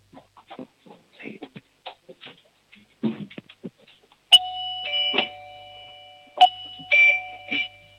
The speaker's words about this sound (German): Eine tolle Türklingel von der Isabella.